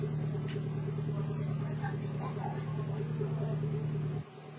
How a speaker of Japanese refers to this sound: すごいな、車が。ひっきりなしだ。 駐車場の前で撮ってるからね。永遠に車がやってくる。